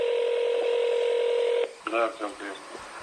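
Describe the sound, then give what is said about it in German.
A steady, buzzing telephone tone from a phone call to an agent of the domestic intelligence service holds for about a second and a half, then cuts off as a voice on the line begins speaking. “Sie und ihre Kollegen hatten am Morgen vor der Veröffentlichung des aufsehenerregenden Berichtes vorige Woche zeitgleich versucht, die Agenten des Inlandsgeheimdienstes telefonisch zu erreichen.”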